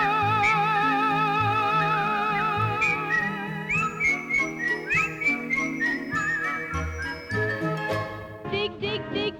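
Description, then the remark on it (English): A cheerful, bouncy melody is whistled with a light wavering vibrato over a soft orchestral backing, with bright tinkling bell notes near the end and no talking. “Come on, get smart, tune up and start to whistle. Whistle. Whistle while you work.”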